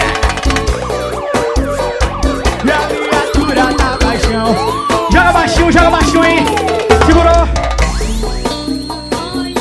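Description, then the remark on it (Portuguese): A wailing siren sound effect rises and falls repeatedly over loud, dense music with a heavy, pounding bass beat, staying prominent throughout. “Eu quero ver o separado inteiro gritar a sirene.”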